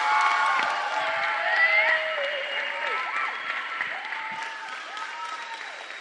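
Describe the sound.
A crowd applauds steadily while voices cheer and shout over the clapping. The sound is fairly loud, fading slightly toward the end.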